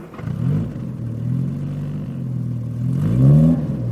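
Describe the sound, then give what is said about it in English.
A new car's engine revs with a deep rumbling drone, its pitch rising in a loud surge near the end as the vehicle pulls up. No one speaks. “Anyway, the good thing is he'll take us for a drive in his new car.”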